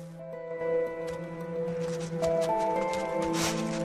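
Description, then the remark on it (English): A female wolf paws at loose soil beside a cow carcass in a series of gritty scrapes and soft scuffs, repeated irregularly over steady sustained musical tones in the background. “She paws at the loose soil.”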